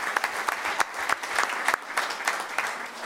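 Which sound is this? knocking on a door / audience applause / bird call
audience applause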